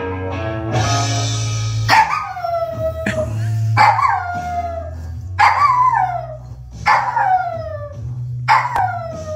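A small dachshund howls repeatedly along to music after hearing one note, each long, wavering howl sliding downward in pitch, about five in a row, loud above a steady low instrumental backing.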